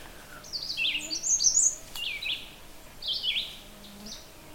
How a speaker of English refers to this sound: And I'm kind of looking at like as a background sound, and that's a red-eyed vireo, very, very common bird.